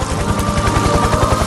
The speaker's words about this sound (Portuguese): O helicóptero, olha o helicóptero aí, ó.